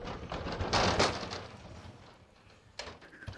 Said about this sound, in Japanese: 引き続きこの方にも、ドア開いてね、こうガラガラっと一発いい感じに登場していただきましょう。どうぞ。